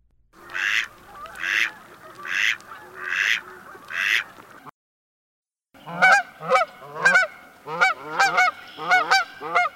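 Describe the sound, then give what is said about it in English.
A mallard duck quacks five times in a steady, raspy rhythm, then after a short pause a different bird takes over with a quick series of higher, harmonic honking calls. “The birds were the mallard duck, Canada goose, red-winged blackbird, belted kingfisher, great blue heron, and tree swallow.”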